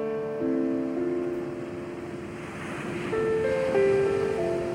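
Calm ocean waves wash steadily onto a beach in a soft, continuous rush that gently swells and ebbs, with sustained, mellow musical tones drifting over it. No one speaks.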